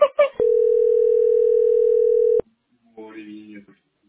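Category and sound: signal or alarm, telephone line tone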